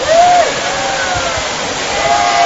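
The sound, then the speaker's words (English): Steady rushing water from a waterfall with a 520,000-liter pool at a zoo animal exhibit fills the scene, with a murmuring crowd of zoo visitors underneath and a couple of brief high calls or whistles rising over the din. “Zoo visitors get a close-up look at modern animals in their natural setting, complete with a 520,000-liter pool and waterfall.”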